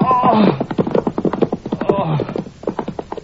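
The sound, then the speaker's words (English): Horse hooves clip-clop in a quick, steady clatter of sharp beats throughout, with a horse's whinny rising briefly near the start and again midway, in a dramatization of Macbeth. “Take their horses!”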